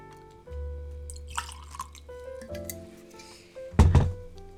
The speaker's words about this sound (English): I had to pour more of that Sagamore Spirits rye.